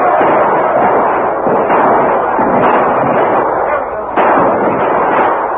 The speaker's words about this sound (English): The outburst of shots and the continuing fire took the Indians by surprise. Warriors fell from their horses, and those who were near them retired from the spot where the white men's bullets seemed to be heaviest.